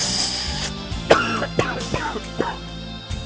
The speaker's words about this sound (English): Let's see here. Now I'm coughing.